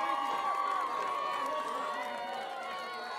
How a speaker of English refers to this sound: Welcome to the Western Virginia International Minstrel Competition and Wet T-Shirt Contest. Give yourselves a big round of applause just for surviving the winter.